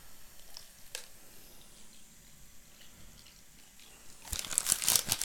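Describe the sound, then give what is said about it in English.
Quiet for about four seconds, then water splashes and pours, a bright hissing stream filling a cup until the end, as water is added while preparing an MRE. “I'll pour water into this cup and add a little bit of this stuff.”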